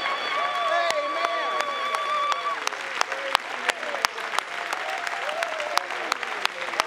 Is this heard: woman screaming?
no